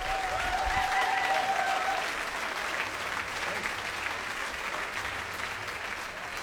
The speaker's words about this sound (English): Please give them another massive round of applause.